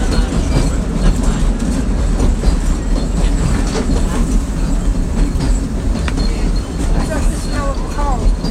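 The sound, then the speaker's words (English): A steam train rolls along the rails with a steady, loud rumble and rhythmic clatter, a few brief high wheel squeals chirping near the end. “Some of the trains, they burn fuel oil. That would heat the water, which would make the steam.”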